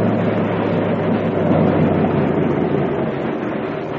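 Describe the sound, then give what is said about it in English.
A steady, heavy drone of invader aircraft engines flying overhead at night above the Burma Road, a low rumbling hum with a rough, throbbing texture that barely changes in loudness. No one speaks. “The driver says those are invader planes.”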